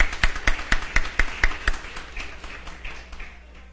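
In a council chamber, councillors give a round of applause to the people present in the plenary, opening with about seven loud, evenly spaced claps in a steady rhythm, then loosening into softer, scattered clapping that fades away by the end.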